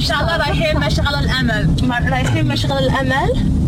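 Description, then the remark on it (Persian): A steady, low rumble of road and engine noise inside a moving car runs throughout, with a person talking continuously over it while driving through Najah alley, taking a sister to work. “من خوب ماشین میرانم و انشاءالله به هیچ کس خطر ایجاد نمیکنم.”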